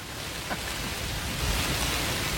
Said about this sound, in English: Somebody told me about an app called Hatch, and apparently Hatch added a new sound this week. Are you ready for it? I'm ready. It's white noise to make you fall asleep, the sound of frying chicken.